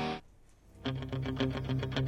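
A short loud burst, a brief lull, then a rock track from the Rocky soundtrack kicks in with heavy distorted electric guitar chords pounding out a steady, driving rhythm, full.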